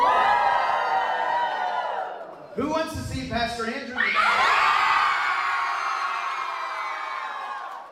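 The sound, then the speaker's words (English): A crowd cheers and whoops loudly for several seconds, voting to see the Pumpkin Spice Girls in a dunk tank, broken briefly by a man's amplified voice asking a question before the cheering swells again and slowly fades. “So whoever wants to see the Pumpkin Spice Girls in the dunk tank, let's cheer.”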